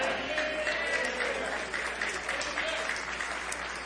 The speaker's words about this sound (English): Well, I didn't get as many hand claps on that part.